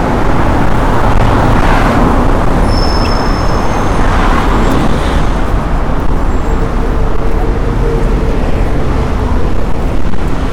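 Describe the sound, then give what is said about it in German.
Steady, loud street traffic in Russia where many long-distance buses depart, rumbling throughout with heavy engine drone from the buses and a few faint high whines, no one speaking. “Hier fahren auch eine ganze Menge Busse los. Also jetzt nicht innerstädtische Busse.”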